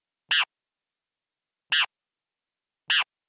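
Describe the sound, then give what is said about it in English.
Great kiskadee song produced during sleep: three brief, raspy, harmonic calls, each loud and abrupt, separated by over a second of silence, with no voices present. “So I want to listen to what a bird dream sounds like. This one is from the bird you've been using for research, the great Kiskadee.”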